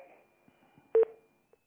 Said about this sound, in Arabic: السكة، الخط اتقطع.